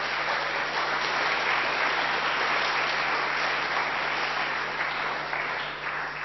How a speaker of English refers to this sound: so thank you to all the children's church leaders who look after you and youth leaders week in, week out. They get a summer break now, so thank you very much. And I think we could give them a little round of applause as a church.